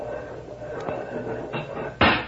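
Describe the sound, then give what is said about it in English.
A couple of light clicks and a scrape, then a sharp bang as a truck's back doors are pulled open, with a low background hum. “Let's open the back doors on the truck.”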